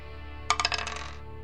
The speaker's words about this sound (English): Now, we know that the Hollow are also Tier 2. So, we're going to go ahead and roll two dice for them.